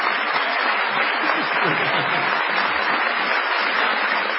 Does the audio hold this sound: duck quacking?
no